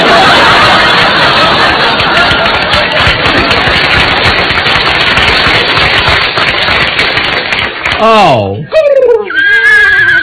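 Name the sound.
horse whinnying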